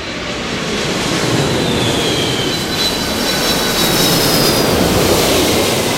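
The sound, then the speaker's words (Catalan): A jet airplane roars loudly and steadily as it takes off, a dense rushing rumble with a thin high whine running through it, sustained throughout, with no voices. “Es passen el dia mirant com s'enlairen i com aterren els avions.”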